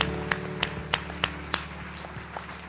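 An audience gives a clap offering to the Lord, clapping together in a steady rhythm, about three sharp claps per second. The claps are strongest at first, then grow softer over a sustained low hum, with no talking.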